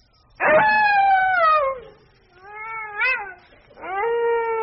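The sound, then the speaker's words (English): A wolf howls three times with no talking: a long, loud falling howl, then a softer wavering one, then a steady held note that rises at the start. “Founded on the banks of the Tiber by the legendary twins Romulus and Remus, who were raised by a she-wolf”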